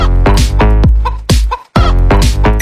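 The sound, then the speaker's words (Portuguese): Loud chicken clucks repeat in a rapid, punchy string of short bursts, prominent, riding over a deep thumping bass line with a brief gap midway. “Levanta a mão e grita quem tem amiga galinha.”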